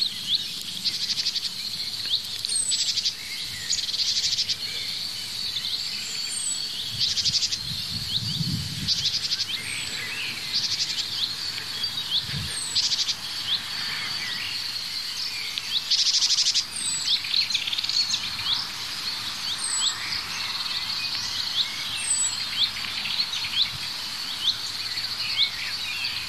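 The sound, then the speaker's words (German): A small songbird, a tit, gives repeated short, high calls at fairly regular intervals over a steady background of buzzing insects, with no voices present. “Ja, wir hören die Meise vorher. Also vorher, vor diesem Huit.”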